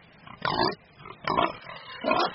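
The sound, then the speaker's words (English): Pigs grunt and oink on a British farm: three loud grunting bursts come at a steady pace with short pauses between, and no one speaks. “They don't know it, but our pigs are wrapped up in EU red tape.”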